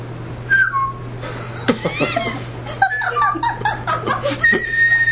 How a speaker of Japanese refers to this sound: でも口笛ありまんがな。